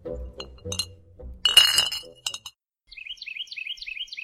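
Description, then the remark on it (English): Glass clinks and rattles in a bright burst in a glassblowing studio at an art museum, during a glassblowing class, over low background murmur, then a quick run of light, high ringing taps repeats in a steady rhythm. “We are at the Chrysler Museum of Art, and we are about to take the Candy Dish glass blowing class at the Perry Glass Studio.”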